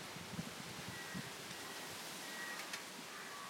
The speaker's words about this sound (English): It's so windy.